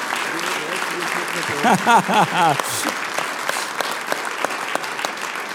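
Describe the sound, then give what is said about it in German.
Steady audience applause for the sports and culture city councillor at an event in Bernbach fills the whole stretch, a dense crackle of many clapping hands, with a brief burst of voices shouting and cheering partway through. “Und ich würde das Publikum einmal bitten, einen kräftigen Applaus zu spenden für unseren Sport- und Kulturstadtrat.”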